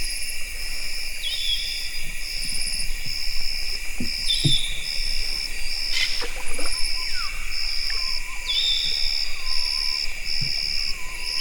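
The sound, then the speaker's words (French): In Gabon, a few harsh, abrupt African grey parrot squawks and a brief whistle cut through a steady, high insect drone, with faint low great hornbill calls underneath and no talking. “Toujours le perroquet gris à rouge du Gabon avec derrière le fond le grand calaou.”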